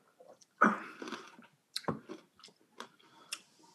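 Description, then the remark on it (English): Wet sipping of a gin cocktail: a strong slurp up front, then a few short, softer mouth and swallowing clicks spaced out over several seconds, with no talking. “And I'm going to go ahead and sip this bad boy.”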